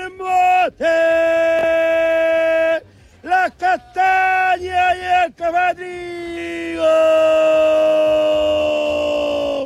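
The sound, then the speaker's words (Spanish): A loud street vendor's cry, shouted in long, drawn-out tones with sliding pitch, broken by a burst of shorter choppy calls before a final sustained holler. “como cuando entra como un ladrón gritando en la canción del Motemey, que dice así: ¡Motemey!”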